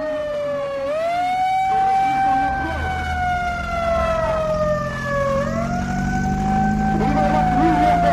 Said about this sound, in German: Von einer Sirene angekündigt und von Sprechchören begleitet, treffen plötzlich etwa 200 Fahrzeuge in einem endlos scheinenden Konvoi im Zentrum von Sinakantan ein.